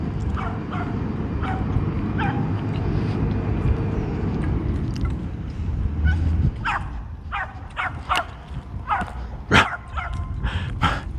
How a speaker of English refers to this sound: He has a lot to say this morning. I don't know if he's barking at me or just barking to hear himself bark. Doing a little dog splaining, I think.